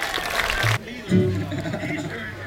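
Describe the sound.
A short, dense burst of audience clapping for a tenor singer from Rhode Island fills the first moment, then cuts off abruptly as a man starts speaking over a low, steady hum.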